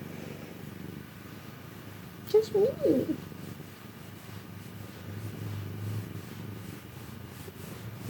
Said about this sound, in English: Oh, those purrs, those purrs. Yes, yes, yes.